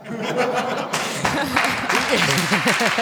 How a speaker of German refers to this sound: Da klatschen lauter Männer.